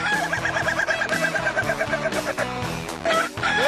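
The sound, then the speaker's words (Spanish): A rooster crows amid a dense, continuous chorus of clucking chickens, loud, filling the whole short stretch with no voices; the sound played daily at 6 in the morning as a wake-up call. “Así que imagínense que son las 6 de la mañana, les vamos a poner el gallo que ponemos diario a las 6 de la mañana.”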